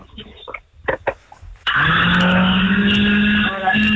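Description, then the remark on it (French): After a few brief bits of talk, an electric blender is plugged in, switches on abruptly and runs with a loud, steady motor whine and a constant low hum at speed level 1, then level 2, briefly dipping near the end before continuing. “Est-ce que vous avez le mixeur de brancher, s'il vous plaît, madame?”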